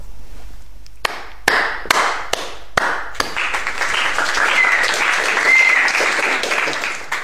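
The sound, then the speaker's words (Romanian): A few sharp, separate claps ring out at first, then swell into sustained applause from a crowd, steady and fairly loud, with a couple of whistles cutting through near the end. “Prin urmare, astăzi stac și aplaud.”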